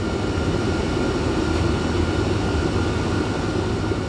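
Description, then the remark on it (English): A steady, heavy engine drone fills the space, like the inside of a cargo plane in flight, with a deep constant rumble and a faint whining hum. No voices. “And you can probably imagine a cargo plane, right?”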